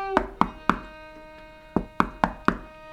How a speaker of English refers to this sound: There's a knock on the door.